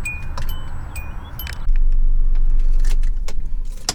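A car's interior chime beeps a few times among jangling keys and clicks, then the engine kicks in with a steady, low rumble as the car gets underway. No one speaks.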